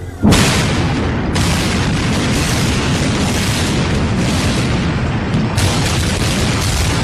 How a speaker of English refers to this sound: They had roped this area off. They were taking photographs and securing this area just prior to that huge explosion that we all heard and felt.